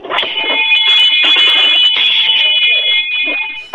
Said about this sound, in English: And there is a restaurant where if you order ketchup on your hot dog... We ring the bell and yell, blasphemy! Can I hear the bell? Sure. Hold on, let me walk over and get it. You ready?